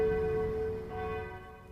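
Church bells ring out in a sustained, resonant wash of overlapping tones, fairly loud and steady before slowly fading, with no voices present.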